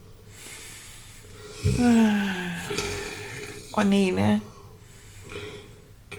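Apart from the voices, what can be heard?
snoring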